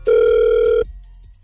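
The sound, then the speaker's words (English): A telephone ringback tone from an outgoing call: one steady, loud electronic ring lasting under a second, cut off abruptly, followed by a quiet run of faint, evenly spaced high ticks. No voices. “All right, stay quiet. We're going to call her right now.”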